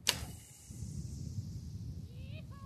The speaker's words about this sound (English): pulls the arrow back and raises the bow.